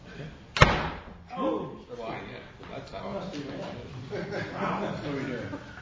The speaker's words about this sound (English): Alright, shut the door behind you.